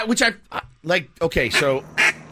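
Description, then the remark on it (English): A world champion duck caller blows a duck call in a quick string of nasal, raspy quacks in an uneven rhythm, loud, sounding much like a real duck. “That really sounds like a duck. That's a person? No, it's a duck call.”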